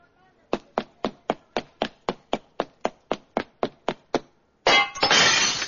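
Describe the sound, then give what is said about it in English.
About fifteen sharp, evenly spaced thuds strike the glass door of a jewelry store in quick succession, then a loud, sustained crash of shattering glass bursts out and runs to the end; a staged robbery scene being shot on a film set. “Killer, you run into the store, grab the jewelry, smash the glass door, and dash out.”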